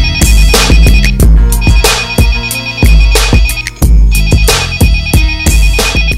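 A loud, melodic phone ringtone plays as a friend calls, a bright repeating musical phrase looping steadily for several seconds with no one speaking.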